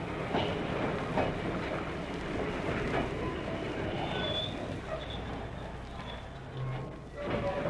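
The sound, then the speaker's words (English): A train in South Africa, traveling from one city to another, rumbles steadily along the tracks, its wheels clattering in a continuous, dense rhythm with occasional faint metallic squeals rising above the low, constant roar. “boards a train.”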